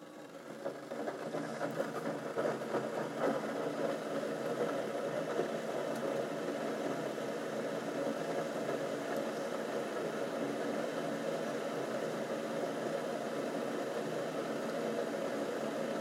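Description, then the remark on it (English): A hot drink machine, switched on with its power button, heats water with a steady, continuous mechanical hum and a faint rattly vibration, rising slightly in the first second or two and then holding even throughout, with no talking. “So I'm going to hit the power button to heat the water.”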